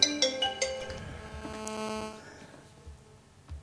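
A telephone rings with a short melodic electronic ringtone, a quick run of bright tones that sustain and then fade out within a few seconds, heard alone with no talking.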